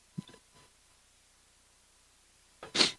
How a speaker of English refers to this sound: Oh, sneezing again.